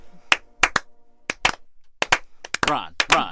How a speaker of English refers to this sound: He gets a slow clap.